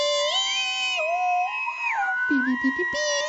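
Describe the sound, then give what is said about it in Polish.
A long, loud electronic evacuation alarm tone sounds continuously, its steady shrill pitch stepping up and down a few times, with brief lower warbling bursts near the end; the alarm signals people to leave the place they are in. “Nagle pisk, długi, głośny pisk.”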